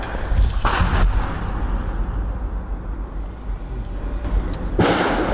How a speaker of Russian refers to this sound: Снаружи блиндажа – перестрелка.